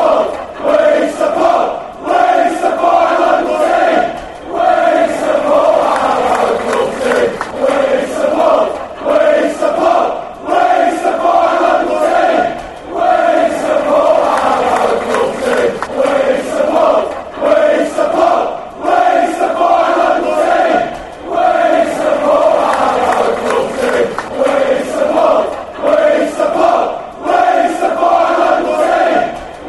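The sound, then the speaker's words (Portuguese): A large crowd of football supporters of their local neighbourhood club chants together in a stadium, a loud, steady, rhythmic sung chant with swelling phrases that repeat throughout, and no separate speaking voice. “eles querem dizer, olha, aqui a gente torce para o nosso time do nosso bairro, do nosso local. Não vem que não tem, que a gente é orgulhoso.”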